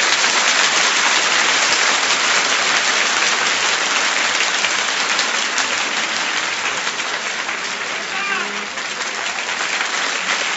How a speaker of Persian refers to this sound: این دست زدن یعنی دست زدن و قرتی بازی. قشنگ دست بزن باری کلا.